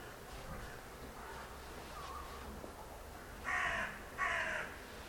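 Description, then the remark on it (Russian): A raven caws twice, loud, harsh calls in quick succession near the end, after a few fainter croaks over a steady low background hum. “Ворон, какой-то другой голос сегодня.”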